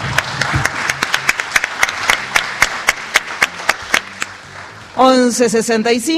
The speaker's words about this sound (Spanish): un aplauso por otro.